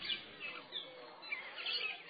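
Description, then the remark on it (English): A large flock of parrots up in a tree beside a hillside pathway chatters and squawks continuously, many overlapping shrill calls, fairly quiet with no talking. “very nice pathway, heading for Dan Gar, the third hill, on top of which, that's parrots.”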